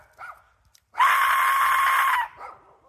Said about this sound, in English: What we have today is the Aztec Death Whistle.